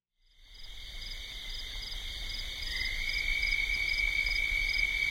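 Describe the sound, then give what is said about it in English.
A dense, unbroken chorus of toads croaking steadily, recorded near the Henry Mountains in Utah, a shrill, buzzing drone that fades in and then holds, slightly swelling, over a soft low rumble. No one speaks. “Once, near the Henry Mountains in Utah, I thought I might have heard one, but it's like trying to take a picture of a ghost, and all that came through on my microphone was the steady croaking of toads.”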